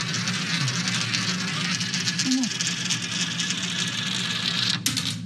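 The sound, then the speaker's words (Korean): A coin spirals around a gravity-well funnel, a demonstration device explaining gravity wells, with a steady, buzzing rolling rattle that holds for several seconds before a sharp break near the end, with faint voices underneath. “중력의 중심이 있으면 이게 물체가 돌아가고 점점 이게 가속이 되는 거.”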